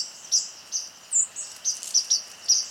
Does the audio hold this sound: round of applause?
no